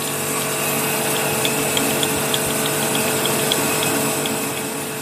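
A tool grinds steadily against a rotating grindstone that is no longer needed, a continuous rough hiss over a low motor hum, with faint regular ticks repeating throughout. Fairly loud, no voices.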